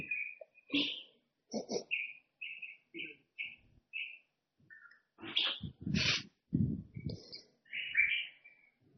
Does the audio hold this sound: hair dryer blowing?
no